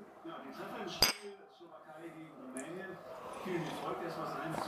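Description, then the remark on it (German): A single sharp clink of glasses of iced tea touching in a toast rings out near the start, bright, while people keep talking quietly underneath. “Wollen wir anstoßen?”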